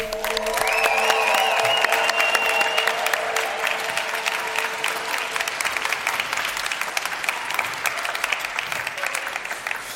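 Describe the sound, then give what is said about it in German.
A large live audience in a hall at the Versicherungskammer Bayern in Munich bursts into sustained applause with cheers and whistles, a dense, loud wash of clapping that holds steady for the full ten seconds, with a shrill whistle tone early on. “Liebes Live-Publikum, macht mal ein bisschen Lärm bitte.”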